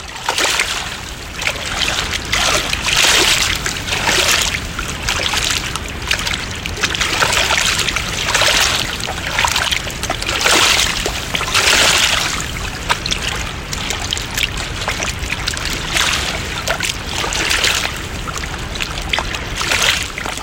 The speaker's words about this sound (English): It's very brown, especially because when we're on the trail, we're not the closest to the river right when we start, but we do eventually jog up much closer to the river, and you definitely get some really lovely sound there again.